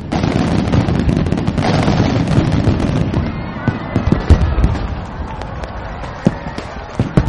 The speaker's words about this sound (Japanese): これからも毎年花火一緒に見ような。